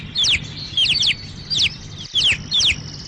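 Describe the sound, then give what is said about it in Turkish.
Newly hatched baby birds, just out of the egg and not yet able to fly, chirping in quick, high-pitched bursts, about five clusters of thin peeps repeating every half second, over a faint low background rumble. “Bu yavru kuşlar yumurtadan yeni çıktılar.”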